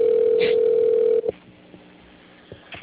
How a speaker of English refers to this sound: Add to group call. This works. Clicking on it. There it is. Ringing. Probably coming up as a sketchy number, so it's funny.